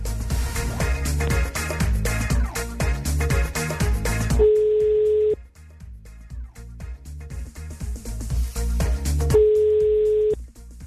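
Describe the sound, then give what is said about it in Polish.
A telephone ringback tone sounds twice, each a steady one-second beep several seconds apart, over a busy music bed, with no one talking, as a radio presenter phones a listener for a contest. “tak, to jest właśnie ten moment, kiedy próbować się będę dodzwonić do kogoś z Was.”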